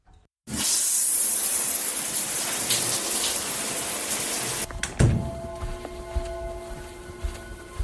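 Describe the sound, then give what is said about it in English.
A shower bursts on and runs with a steady, loud hiss of spraying water, then the spray shifts and softens after a dull thunk, leaving quieter running water with faint tonal hum. “Now get a shower and meet me downstairs.”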